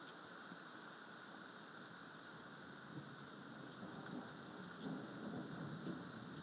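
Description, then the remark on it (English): Steady rain hisses and patters while low, rumbling thunder rolls underneath, swelling a little louder toward the end as the thunder gets closer, during a thunderstorm just after 6 on the morning of the 4th of July, with no lightning seen yet. No voices, just the storm. “I think the thunder's getting closer. And it's raining.”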